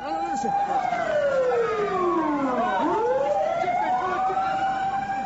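Several police and ambulance sirens wail loudly together as the vehicles arrive in the central part of a city just after an explosion. Their pitches sweep down and back up in a continuous, overlapping blare that fills the whole scene.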